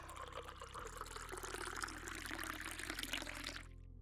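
A strong drink is poured into a glass in one steady, splashing stream for about three and a half seconds, then stops abruptly. A low, steady hum sits underneath, and no one speaks.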